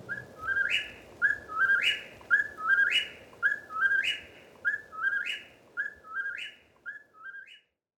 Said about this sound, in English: Through the night, the incessant calls of the whippoorwill can be heard from New Brunswick to northern Georgia.